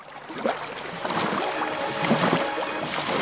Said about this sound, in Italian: Guarda, sta passando una barca, che faccio? La chiamo?